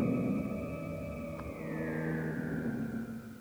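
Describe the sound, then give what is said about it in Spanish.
A shrill, sustained factory siren marking the staff shift change holds steady, then slowly slides downward in pitch, sounding over a low, rumbling drone of slow factory machinery, with no voices. “Distingo, entre el ritmo lento y distante de las máquinas, una aguda sirena que marca el cambio de turno del personal.”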